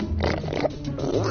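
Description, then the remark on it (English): A man's voice imitates a warthog with a loud, gravelly, snorting grunt that rumbles low and steady for just over a second, with throaty rasping bursts. “That's a warthog.”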